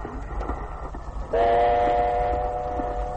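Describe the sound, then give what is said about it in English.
A train rumbles and rattles steadily along a bumpy stretch of track at night in the rain, heard from its baggage car. About halfway through, a loud, sustained horn blares in over the noise and holds to the end. “Rattling along in that baggage car, with the light from the lantern showing up the streaks of rain on the windows.”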